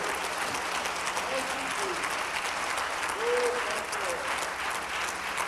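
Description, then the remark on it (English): An audience claps steadily for several seconds, a dense crackle of many hands at an even loudness, with a few faint voices calling out underneath. “I'll give him a good clap off of you little clap.”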